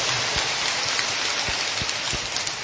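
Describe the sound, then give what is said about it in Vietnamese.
A warm round of applause from a crowd for teachers ahead of Teachers' Day, a dense, steady wash of many hands clapping at once, with a few louder individual claps popping out of the roar. “Chúng tôi xin được chúc mừng tất cả các thầy, các cô, những nhà giáo, một tràng pháo tay nồng nhiệt thưa anh chị em và thưa các bạn.”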